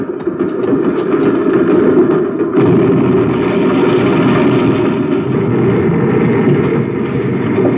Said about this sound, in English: it sounds like a railroad train. Must be some of those loading cars running in this tunnel.